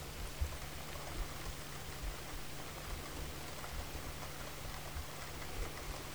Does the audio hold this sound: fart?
no